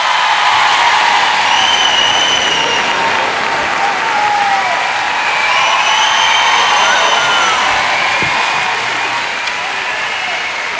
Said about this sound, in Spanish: Fuerte aplauso para él, por favor.